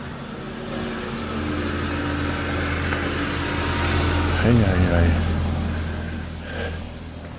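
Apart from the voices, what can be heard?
busy road traffic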